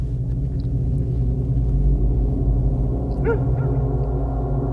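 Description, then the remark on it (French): A dog on a path on the allée de la Félicité of an estate gives a single short bark partway through, fairly distant, facing an estate worker who has got off his bicycle, over a loud, steady low rumble that fills the whole recording. “Face à lui, un chien qui aboie.”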